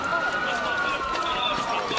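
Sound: ambulance siren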